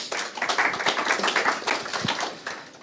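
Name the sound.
audience applause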